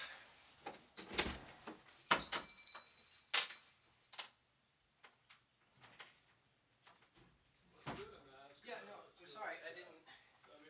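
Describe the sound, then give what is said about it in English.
A landlord raps sharply on a window in uneven bursts, some loud and others lighter, followed by muffled talking toward the end. “Oh, sorry, listeners, my landlord's knocking on the window.”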